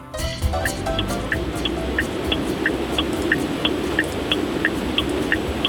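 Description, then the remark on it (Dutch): A Renault car's standard turn signal indicator ticks in a steady, quick rhythm, its crisp clicks repeating evenly over a constant low rumble of engine and road noise. “Nou, ik durf het haast niet te vragen, maar zou je me even voor me kunnen aanzetten? Je knipperlicht.”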